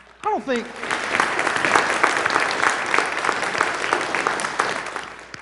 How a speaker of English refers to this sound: Goodness gracious, that was beautiful. Thank you, choir. Let's clap for the choir.